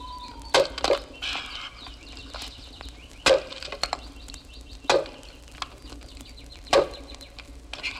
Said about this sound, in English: The wolf had very sharp ears, and he could hear that on the path to the left, there were the sounds of axes biting into tree trunks.